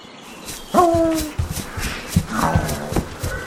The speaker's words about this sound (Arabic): ذهب الولد مع الكلب إلى خلف المزرعة، فبدأ الكلب بالنباح، وفجأة توقف الكلب وأخذ يحفر الأرض بسرعة ولهفة شديدة.